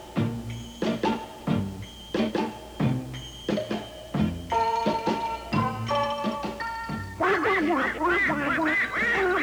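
A flock of birds calls loudly and repeatedly, with rhythmic quacking and honking bursts that grow denser and overlap into a continuous, busy chorus near the end.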